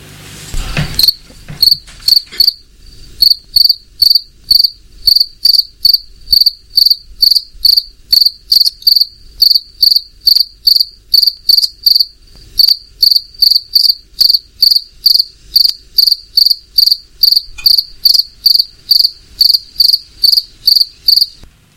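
A cricket chirps steadily, its bright, high trills repeating in an even rhythm for the whole stretch, with no voices, just a faint background hush.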